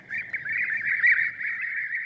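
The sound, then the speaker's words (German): European bee-eaters calling in Spain: a steady stream of rolling, purring mid-pitched trills that overlap into a continuous chorus for about two seconds, with no voices. “Sort of scoots around and catches the bees, and it's got a lovely sound to it as well.”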